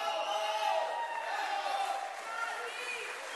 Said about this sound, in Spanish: El aplauso, el reconocimiento para ….